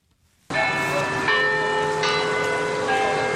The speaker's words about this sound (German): Das Glockenspiel im Turm des Kopenhagener Rathauses. Für Einwohner und Touristen gleichermaßen ein ikonischer Klang.